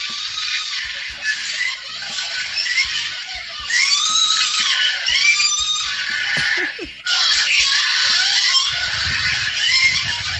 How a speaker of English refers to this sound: This is also the reaction I got when they watched my XT videos. Mm-hmm. Sort of five gay guys screaming like girls.